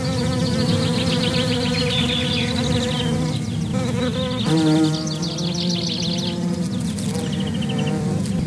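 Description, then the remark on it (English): A dense swarm of bees buzzes loudly and steadily, their overlapping drones forming one thick, continuous hum that never lets up. “so began what became a rather short-lived Christmas tradition of Daddy stepping on bees”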